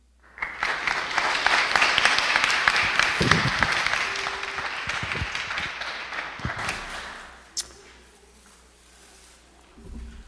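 A church audience applauds steadily for about six seconds after a prayer quilt is presented, a dense, bright wash of many hands clapping that then thins out and fades, leaving scattered claps and murmurs.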